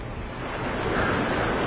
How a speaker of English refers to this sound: Today, as we join Howard Tripod, we see that he is still stranded on a canoe, escaping from Whitney Island and going out into the Atlantic Ocean.